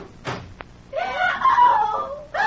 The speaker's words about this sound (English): What was that scream I just heard? It's your patient, Dr. Manette. We'll take you right upstairs to her now.